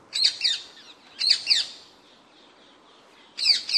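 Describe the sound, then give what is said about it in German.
An introduced, non-native bird calls in three bright, harsh bursts, each a quick pair of chirping notes, with pauses between them. The calls are clear, with no talking. “Und der Vogel klingt so.”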